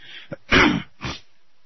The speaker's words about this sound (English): I apologize for clearing my throat. I knew I was taking this, and now that I'm trying to do a little bit of talking, I can realize it's going to be a real irritant, and I apologize.